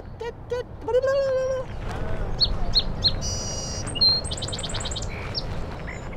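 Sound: song sparrow singing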